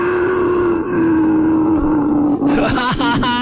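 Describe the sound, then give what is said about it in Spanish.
A voice imitates a dinosaur as a good-morning greeting on a children's radio show, with a long, droning growl held at a steady low pitch, then breaks into rough, wavering grunts and moans near the end. Loud throughout, with no other sounds. “¿Qué les dice buenos días con gruñidos o gemidos o no sé qué de dinosaurio?”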